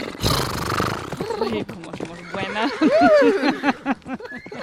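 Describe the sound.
A horse whinnies loudly and close by, its wavering, quavering cry rising and falling for a few seconds after a brief rough burst of noise, with voices underneath.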